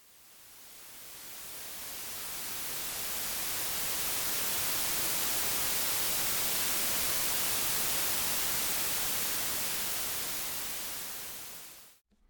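A steady hiss of white noise spread evenly across all pitches, fading in gradually and holding constant before cutting off abruptly near the end, with no voices.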